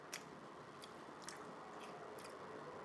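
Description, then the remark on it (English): Soft chewing of a bite of apple pie, with about five moist, squishy bites at an irregular, unhurried pace against a quiet background. No one speaks. “But when you eat the apple pie, it cools it down.”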